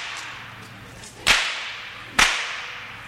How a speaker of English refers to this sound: I just wanted you to know that the whip is what makes the noise and not the gun.